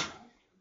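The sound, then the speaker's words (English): A single quick sneeze, a short breathy burst that fades away within a fraction of a second, fairly soft and heard on its own without talking. “Bless you. Bless you. Go ahead.”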